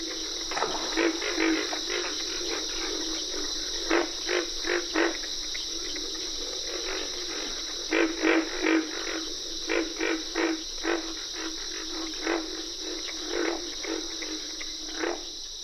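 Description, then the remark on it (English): Deep, grunting pig frog croaks sound in irregular bursts over a steady high chorus of cricket and carpenter frogs clicking and trilling, a dense nighttime chorus at a wet grassy prairie in the Okefenokee National Wildlife Refuge, Georgia, with no voices. “Pig frogs are the featured crooners at a wet grassy prairie in the Okefenokee National Wildlife Refuge in Georgia.”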